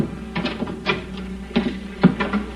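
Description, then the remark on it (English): A few light, sharp taps on a wooden cabin door at 10 o'clock at night, about five dry knocks spaced unevenly over a couple of seconds, with no voices. “At 10 o'clock that night, there was a tap on my cabin door.”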